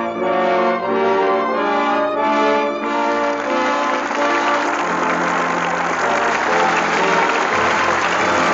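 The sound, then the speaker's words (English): Loud, sustained audience applause at the Lux Radio Theater swells in under a closing burst of orchestral music, then takes over as a dense, steady wash of clapping from many hands with no one speaking, as Jimmy Stewart and Joan Blondell come to the footlights for their curtain call. “With that well-deserved applause, our thanks to Jimmy Stewart and Joan Blondell, who come to the footlights for their curtain call.”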